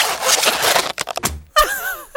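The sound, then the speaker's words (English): A rubber glove is stretched and pulled on: a second of steady rubbery rasping, a few quick snaps, then a wavering, high-pitched squeak as the rubber tightens. “Put your gloves on. Oh, you put yours on first.”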